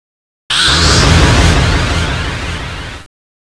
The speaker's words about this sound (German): Das Editieren wird vereinfacht durch komfortable Funktionen wie Ausschneiden und Einsetzen sowie durch anspruchsvolle Effekte, zum Beispiel Echo, Fading, Lautstärkeerhöhung, Hall und so weiter. Das klingt dann ungefähr so. Echo hinzugefügt.